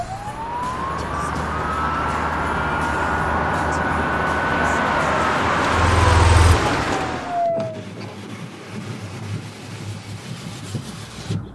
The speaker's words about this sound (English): Gee whiz! Why is that police car behind me flashing all those lights? I guess I'd better pull over.